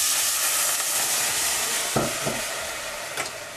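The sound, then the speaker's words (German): A steady, bright sizzle of white wine poured into a hot pan of risotto rice frying in an olive oil and onion mixture, with a few sharper bursts and scraping stirs breaking through the continuous hiss. “Dann einen Schuss Weißwein dazugeben.”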